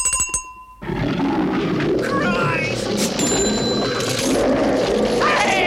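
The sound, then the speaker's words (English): A quick bell jingle opens, then a loud Bengal tiger roar takes over, a deep rumbling growl that carries on for several seconds. “And finally, oh God, finally some eye drops being bought in the chemist just down the street by a Bengal tiger!”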